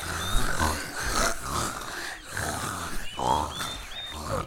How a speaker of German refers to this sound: da fielen ihm die Schweine in den Schweinestall nebenan auf. Und wie viel Spaß sie anscheinend hatten, und er ging zu ihnen.